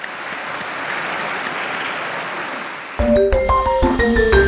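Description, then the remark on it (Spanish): A large crowd claps steadily in a dense, sustained wash of applause for a newly beatified parish priest, which cuts off abruptly as bright, tonal music starts and carries on. “Un aplauso al nuevo Beato.”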